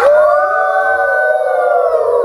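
A single drawn-out wolf howl holds a steady, slightly wavering pitch for a couple of seconds, loud, with no voices over it.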